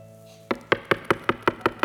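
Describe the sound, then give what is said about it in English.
Eight sharp, steady knocks on a door in quick succession, fairly loud, after a brief quiet moment at the start, with no voices. “They knock on the door. And they won't stop knocking.”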